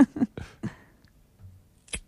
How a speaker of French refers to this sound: Eh ben, pas du tout. C'est-à-dire C'est-à-dire que c'est une pomme qui est cassée.